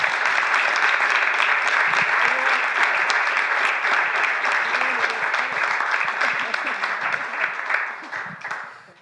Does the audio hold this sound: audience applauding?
yes